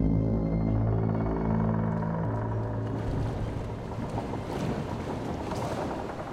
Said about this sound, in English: So as Steelbeard is preparing to dive, as you can hear the wood creak and water begin to rush into the hole below you,